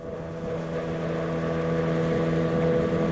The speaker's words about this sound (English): Behind him, almost lost in the smoke, a boat made its way down the Podkamennaya Tunguska River.